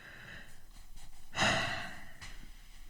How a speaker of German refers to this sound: gähnen ist die einfachste Übung gegen Verbissenheit.